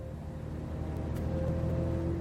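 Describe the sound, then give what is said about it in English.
A bus engine idles and runs with a steady, deep droning rumble and a faint constant whine, unbroken throughout, with no voices present. “Will Stanton gazed out of the window of the bus.”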